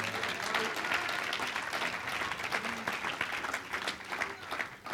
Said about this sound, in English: Do you believe his word's truth? If you believe it, clap your hands to him right now.